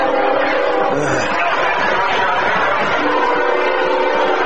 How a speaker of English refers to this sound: As a CSX flies through Booster Field, sounds like it's running right down the middle of the gridiron. Well, I'll tell you what, it's only about maybe 30 yards behind us.